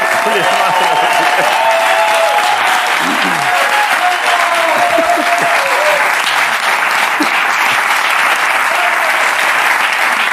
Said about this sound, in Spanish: Y bueno, y tenemos aquí, ha venido Krilin, pero también ha venido C18, el androide, y el maestro Tortuga Duende. Un aplauso para